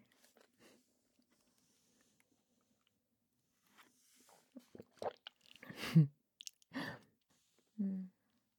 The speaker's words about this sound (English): I'm just having some water.